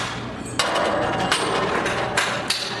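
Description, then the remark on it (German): Metal hammering as soldiers dismantle the poles of the arena, one pole after another, on a huge event grounds: several sharp, ringing clangs at irregular intervals over a steady clattering background of work noise, no voices. “Soldaten bauen Stangen für Stangen ab.”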